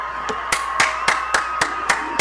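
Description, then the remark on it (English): Steady, rhythmic clapping as an audience welcomes professional snowboarder Jeremy Jones: about eight sharp, evenly spaced claps in a little over two seconds over a faint background hum, with no one talking. “Please put your hands together for Mr. Jeremy Jones.”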